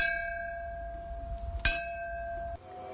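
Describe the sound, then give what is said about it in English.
A single bell strike rings out clearly at the spiritual heart of a school, where students ring it to mark the start of each day; its bright metallic tone sustains with steady overtones before decaying, with no voices present. “A piece of meteorite sits on a Buddhist pedestal, and this is where students recharge their energy, as well as marking the birth of each day with the ring of a bell.”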